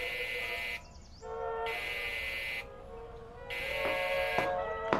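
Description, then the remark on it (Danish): An intercom buzzes three times in a living room as the building porter calls up, each harsh, rasping tone lasting about a second, separated by short pauses with a faint hum between them. No one speaks. “og I sidder nu tilbage lænet i sofaerne, da samtaleanlægget summer.”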